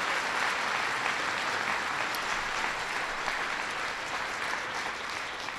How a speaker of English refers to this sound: I want to give them a big round of applause.